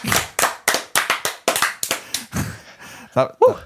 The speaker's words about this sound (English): And, yeah, hand clap.